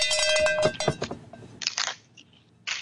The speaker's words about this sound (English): Squeaky, is this your first cowbell?